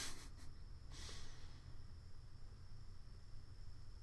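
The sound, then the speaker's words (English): A cat named Ezzy makes a few quick, breathy sniffs close to the microphone, a short cluster at the start and another about a second later, followed by quiet background hum with a faint steady tone. “No, you just wanted to sniff it?”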